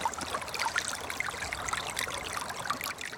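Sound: flowing river stream water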